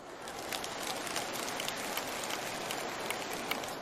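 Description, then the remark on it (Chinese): Thin, scattered clapping from an audience at a Buddhist master's teaching, keeping up a steady crackling patter for about four seconds, with a few sharper claps standing out now and then. No one speaks. “稍微讲了深一点点，鼓掌的声音就少了。”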